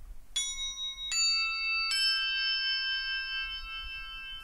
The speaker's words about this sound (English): And we then have quite an unusual instrument called crotales, which are actually tuned metal discs. They are laid out again as a keyboard, but they have amazing sustain on them.